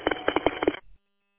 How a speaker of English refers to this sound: I'm on my final approach, and as you hear, my work telephone is ringing.